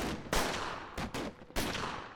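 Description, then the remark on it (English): A rapid barrage of gunfire from a team of men in ski masks shooting at a car, with several loud sharp bursts fired in quick succession over about two seconds, each cracking hard and trailing into a dense, noisy rumble. No voices. “That's when Linda heard a barrage of gunfire.”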